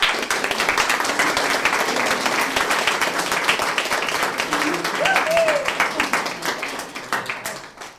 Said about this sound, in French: On va commencer par l'applaudir cette fois-ci. S'il vous plaît, bien.